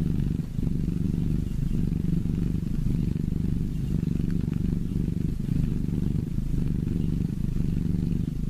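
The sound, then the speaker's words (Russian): A cat purrs steadily for several seconds, a low, continuous rumbling hum with a gentle pulsing rhythm, heard alone without any talking. “вот это самое доброе, желанное мурлыканье или мурчание”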